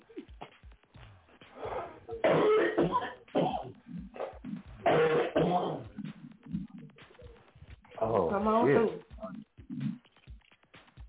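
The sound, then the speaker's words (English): A harsh coughing fit comes in several loud bursts, each a cluster of hacking coughs with short gasps and throat noises in between, the last one strained and raspy. “We need a whooping cough or something.”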